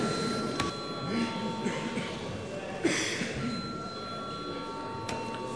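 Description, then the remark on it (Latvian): A steady electronic bell rings continuously in a high, even tone for several seconds, with a low murmur of voices and shuffling underneath. “Paldies, lūdzu zvanu.”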